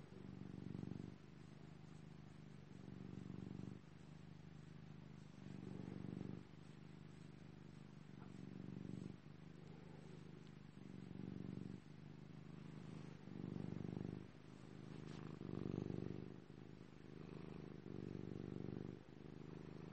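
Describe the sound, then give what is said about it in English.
A cat purrs steadily, a low rumbling drone that swells and eases in a regular rhythm with each breath, continuing for the whole stretch with no voices. “Why should I say anything when you can listen to his purring?”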